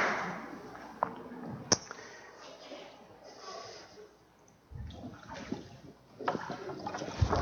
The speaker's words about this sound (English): as you get into the water, I'm going to ask you. It's warm. I promise.